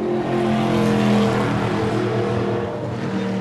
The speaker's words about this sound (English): driving experience gives people a chance to either drive or ride along in a NASCAR style stock car. This is as close as you could get to the real thing, driving the exact same tracks that they were just here just a few days ago here at New Hampshire.